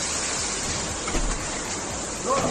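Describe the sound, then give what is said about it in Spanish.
Floodwater rushes past a house in the town of Covisa, Toledo, Spain, in a loud, steady roar, a dense continuous wash of churning water that never lets up, with a slight surge near the end; its force has slammed the house door shut. “Gritos de socorro y desesperación de dos jóvenes que se quedaban fuera de casa al cerrarse la puerta por la fuerza del agua.”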